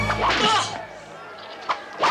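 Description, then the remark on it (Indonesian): Guards' whip lashes strike the body of Jesus (Isa), two sharp snapping cracks arriving near the end after a burst of noisy, shouting-like sound at the start, the blows loud. “Cabuk dia!”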